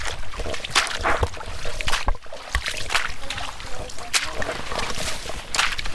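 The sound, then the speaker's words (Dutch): Someone wading ankle-deep through water in an old alder forest north of the Leekstermeer in the Netherlands. There is a steady series of sloshing, splashing steps at an uneven pace, fairly loud, with some talking underneath. “Ploeterend door het water.”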